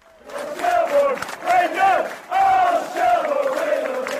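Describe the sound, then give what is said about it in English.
A big crowd of Shelburne football supporters chants loudly in unison at a match. The voices rise and fall in repeated rhythmic phrases with brief dips between them. “The Shelburne supporters arrived in big numbers, full of confidence.”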